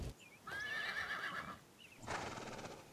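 A horse whinnies loudly with a wavering, high-pitched neigh, followed by a burst of hooves clopping and shuffling; no one speaks.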